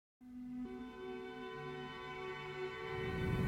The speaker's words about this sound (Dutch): Ik hoor nou trouwens ook sirenes. Hoor je het ook? Ja, ik hoor het ook, ja.